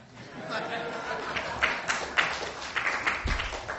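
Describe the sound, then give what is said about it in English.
An audience claps in a steady, dense patter of overlapping hand claps, moderately loud, with a few sharper claps standing out and a low crowd murmur underneath. “Finally, that's an applause line.”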